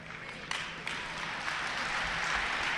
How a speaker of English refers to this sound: Well, I'm not quite sure what the clap is for, but bring it on.